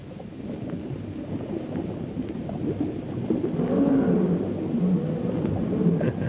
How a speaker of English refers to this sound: That fellow sounds hungry. Lions appear to be always hungry. All wild things in the jungle are hungry, Lal Tusk, especially at night.